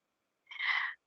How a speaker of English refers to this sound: I know you hear my Lulu snoring, sure, by now.